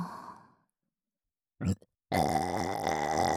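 burp

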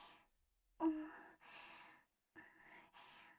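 heavy breathing

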